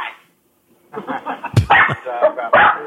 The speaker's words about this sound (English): That fucking dog.